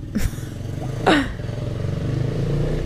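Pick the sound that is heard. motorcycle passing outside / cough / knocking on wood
motorcycle passing outside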